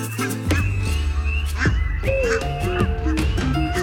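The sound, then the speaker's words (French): A person imitates geese with a rapid run of loud, nasal honks and rising calls, over a steady low rumble in the background. “En imitant ces sons, vous pouvez inciter une couvée de vos des oies qui vous connaissent de s'envoler.”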